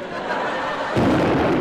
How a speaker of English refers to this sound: He's opened fire. Duck! Why? There's a cannonball coming.